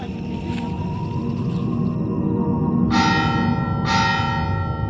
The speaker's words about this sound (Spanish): Están sonando las campanas del pueblo, vamos a ver qué pasa.